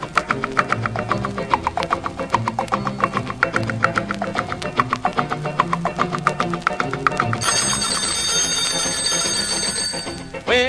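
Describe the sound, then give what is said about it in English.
A bouncy, rhythmic music track plays, then for the last three seconds an alarm clock bell bursts into a loud, continuous, high-pitched metallic ringing over the music. “That darned old clock seems to start that dingling.”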